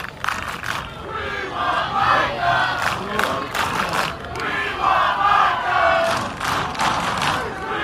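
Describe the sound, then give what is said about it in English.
A large crowd at a football practice chants "We want Micah" for Micah Parsons as Jerry Jones walks on the field, loud, rhythmic bursts of massed voices rising and falling steadily, with scattered shouts mixed in and no single speaker standing out. “So the We Want Micah chants taking place.”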